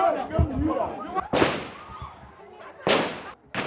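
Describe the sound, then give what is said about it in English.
Gunshots fired into the air by prison officials to disperse a growing crowd: three sharp, loud bangs, each trailing off with a brief ringing decay, cut through the noise of the clamoring crowd with voices shouting underneath. “Prison officials fired into the air to disperse the growing crowd”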